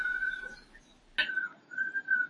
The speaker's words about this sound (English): Sorry, that's the parrot next door, if you hear that screaming. I do hear it. It's okay. Yeah, well, that's good. He's behaving himself right now.